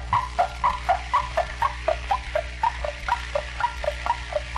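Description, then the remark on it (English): A horse trots along a downtown city boulevard, its hooves making a brisk, even clip-clop of alternating hollow knocks, about eighteen beats over a low steady hum, with no voices. “First is the old hay burner, the horse, trotting.”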